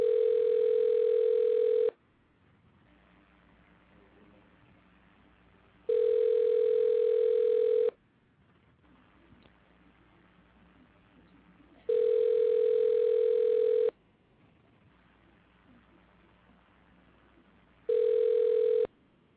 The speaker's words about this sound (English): Okay, trying to reach out to the family. See if I can get a one ringy dingy. Okay, we got dial tone. We got a ring.